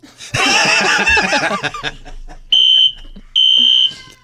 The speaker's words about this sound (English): The fire alarm is going off here in the building.